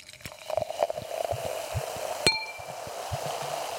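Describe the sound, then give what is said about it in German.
Roederer champagne being poured into a glass, a steady liquid rush with a fine fizzing hiss, broken by one bright ringing clink of glass partway through. No voices. “So, du schüttest ihn ein, sehr gut.”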